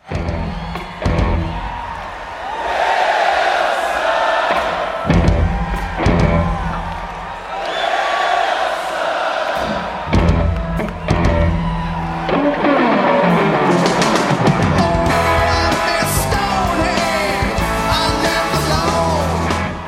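A live concert crowd at a 2011 rock concert cheers and yells over loud, driving rock music with pounding drums, the roar staying dense and steady for the whole stretch.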